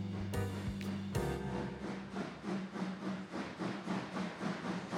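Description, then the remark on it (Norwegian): A train rolls along the rails with a steady, rhythmic clatter of wheels over track joints, accompanied by a low rumble and a brief hiss of steam near the start, evoking a train from Zürich to Vienna in the early 1900s. “Den unge og fremadstormende legen Carl Gustav Jung sitter muligens på toget fra Zürich på vei til Wien.”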